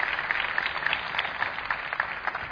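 Sustained audience applause for the volunteers of the Vía DG racing team (escudería), a dense, even wash of many hands clapping at a steady level for a couple of seconds, with no voices over it.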